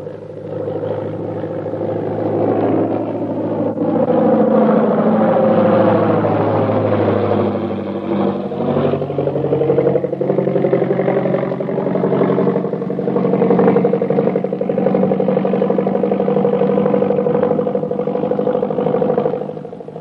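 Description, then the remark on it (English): A loud, continuous aircraft engine drone with whirring, slowly rising and falling tones, as a plane rolls in after landing at an airport. No voices are heard. “Here comes the plane.”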